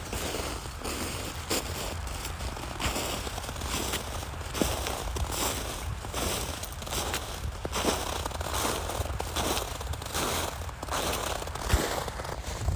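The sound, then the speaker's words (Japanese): Crunchy footsteps of a person and the dog Toichiro on a crisp surface, a steady stream of brittle crackling impacts with irregular rhythm, moderately loud and without any talking. “犬の足音と私の足音なんですが、トイチロくんどんどん向こう行っちゃったんで音が取れないと思います。”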